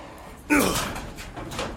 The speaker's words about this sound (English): the door finally gave way, and Dom pushed it open with a sickening creak